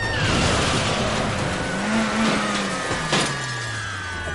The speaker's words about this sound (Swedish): Nu är det är faktiskt en Opel Kadett som svänger in på parkeringen här.